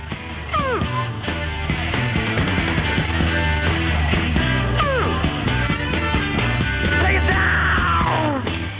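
A raw, lo-fi rock song with dense, clattering guitar and drums under sung vocals, broken now and then by bursts of shrill, wailing screams that swoop up and down in pitch.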